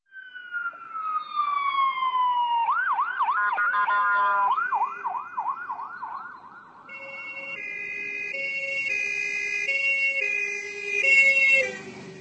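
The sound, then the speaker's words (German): Two ambulance sirens play back to back, a Czech one and a German one: first a falling wail breaking into a fast, warbling yelp, then a steady high-low two-tone horn, loud and without voices. “So unterschiedlich wie Tschechisch und Deutsch klingen auch die Sirenen der Krankenwagen in den beiden Nachbarländern.”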